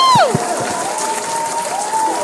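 crowd, audience clapping and cheering

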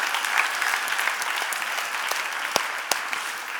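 crowd, audience applauding loudly

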